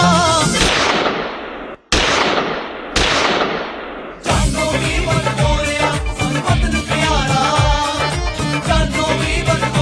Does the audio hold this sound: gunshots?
yes